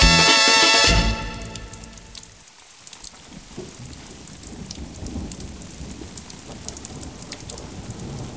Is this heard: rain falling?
yes